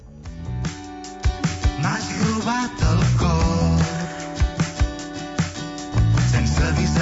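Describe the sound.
A pop-rock song with a lead vocalist singing over a full band, punchy drums marking a steady beat and sustained guitar and keyboard chords, loud and close throughout.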